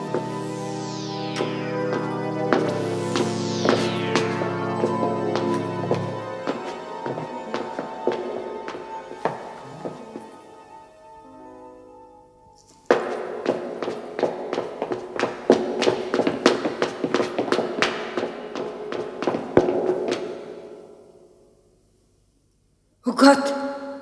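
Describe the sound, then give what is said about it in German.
Steady footsteps of someone following a woman on a street tap along at a brisk, regular pace for several seconds, preceded by eerie, swelling tonal music with descending swoops, then a brief pause and a final burst of sound. “Und dann hörte sie Schritte, die ihr folgten.”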